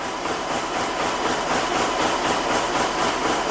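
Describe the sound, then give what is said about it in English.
A weaving loom in a workshop on the outskirts of Nîmes runs steadily, weaving indigo denim, its dense mechanical clatter pulsing in a fast, even rhythm over a constant hissing roar, with no voices. “Guillaume Segal looks at the computer screen to check the progress of the loom that's banging out indigo denim here in his workshop.”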